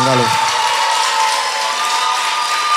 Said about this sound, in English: Church, can you clap for the Holy Spirit?